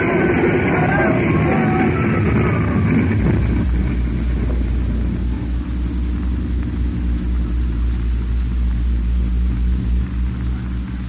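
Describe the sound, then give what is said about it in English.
A plane that overshot the airfield with brakes not holding crashes into a hangar in a loud, chaotic burst of smashing noise lasting a few seconds, which then settles into a steady, low droning rumble with no voices. “For a terrifying instant, Nelson, your mind was staggered by the awful impact.”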